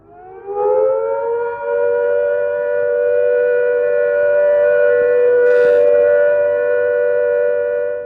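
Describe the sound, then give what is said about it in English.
A civil defense all-clear siren, signalling that people can leave cover after a fallout warning, swells up at the start, then holds one loud, steady, unwavering note for about eight seconds, with no voices. “Here is the all-clear warning.”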